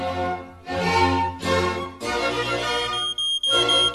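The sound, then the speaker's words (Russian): A standalone smoke alarm signalling a fire beeps in a series of loud, harsh electronic tones, several long bursts separated by short gaps, piercing with no voices. “Как вы думаете, Шерлок, кто это пищит? Никто, а что? Это API. Это же элементарно, Ватсон.”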